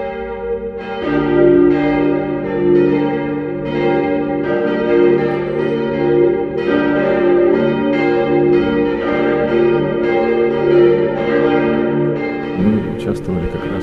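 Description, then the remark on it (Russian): Church bells peal continuously and loudly, several bells overlapping in a rich, ringing clangor with repeated strikes and a sustained resonant hum, filling the whole stretch without pause, rung to welcome a bishop at the consecration of a church. “Все богослужение, конечно, было очень торжественное и памятно, начиная с встречи владыка под звон колоколов, и вход его, облачение.”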